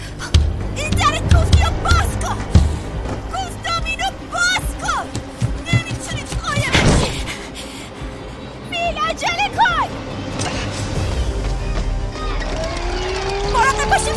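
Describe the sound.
A car engine roars and whines through a busy, cluttered scene, with a loud burst around the middle and chattering voices and squeaky effects layered over the motor noise.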